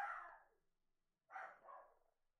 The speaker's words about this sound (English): My dog is barking really loud right now.